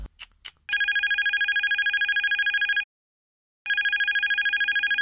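A few quick clicks, then a loud, shrill electric doorbell rings in a rapid continuous trill, cuts off for under a second, and starts ringing again. No one speaks.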